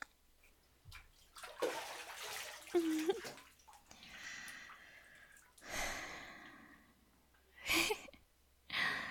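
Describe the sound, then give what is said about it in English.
Water sloshes and splashes in a bathtub in several uneven bursts as someone climbs out, with soft breaths and a sigh between the louder splashes. “As nice as this is, can I get out of this water now?”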